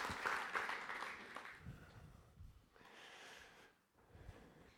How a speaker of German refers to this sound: Noch einmal einen herzlichen Applaus und ein warmes Willkommen für unseren Bruder.